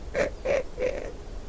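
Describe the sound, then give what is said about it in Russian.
A crow caws three times in quick, evenly spaced succession, each call short and harsh and moderately loud, with no talking around it. “Можешь оставить ее себе, фыркнула ворона.”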